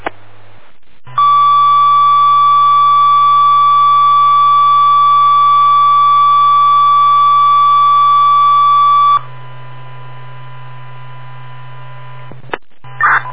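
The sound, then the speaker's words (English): A loud, steady fire dispatch alert tone holds for about eight seconds, then shifts to a quieter second tone, carried over a fire department radio channel with a low electrical hum underneath, paging any available EMT for station coverage at 19:17. “Time of tone, 1917.”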